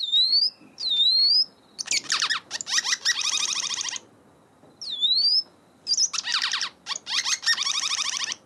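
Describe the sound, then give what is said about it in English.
A welcome swallow sings alone: short, high rising whistles alternating with bursts of rapid, buzzy twittering chatter that come in several clear phrases with brief pauses between. “And congratulations to Eliza and Frank from Rocky Cape in Tasmania, who were first in with the correct answer, which is the welcome swallow.”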